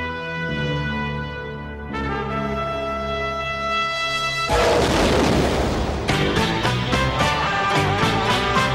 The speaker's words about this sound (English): an explosion in the control room sends showers of sparks and Lister flying through the air